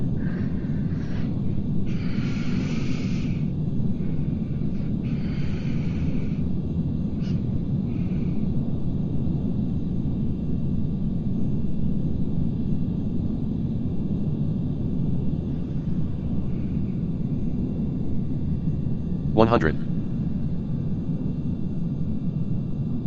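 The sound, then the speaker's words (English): Airliner landing brakes and reverse thrust with no engine sound: a steady low rumble runs throughout, with a few brief hissing bursts early on and a short rising squeal near the end. A voice briefly calls out once. “Gotta love the brake sounds without an engine.”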